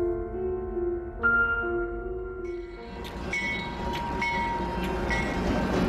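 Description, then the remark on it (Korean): A Pyongyang train boarded at Hamhung and heading north rumbles past, its steady low roar joined by sustained horn-like tones at first, then a rising clatter of wheels and metallic screeches as it rolls on. “군 제대 후 대학에 들어간 리사 씨가 식량이 떨어져 고향 가는 기차를 기다리고 있을 때였습니다.”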